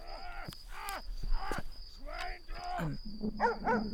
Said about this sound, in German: Hörst du den Hund bellen? Der Leute bellen ja ständig irgendwelche Köter. Nee, das klingt aber irgendwie aggressiver.